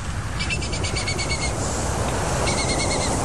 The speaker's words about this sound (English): With this bird here, who is a captive bred barn owl, she has a little bit of communication, does she does with me, which is like a chitter.